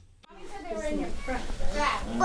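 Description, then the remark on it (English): Toddlers' high voices chatter and babble at an early education center in Brattleboro as they get dressed in snow pants to go out to a snow-covered playground, overlapping in a busy, lively jumble with no clear words, rising in excitement toward the end. “The playground at the Winston Prouty Early Ed Center in Brattleboro is covered with snow, and so the toddlers are getting dressed up to go outside.”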